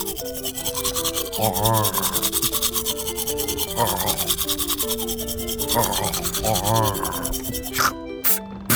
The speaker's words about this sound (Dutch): Ik gebruik gewoon een tandenborstel, hoor.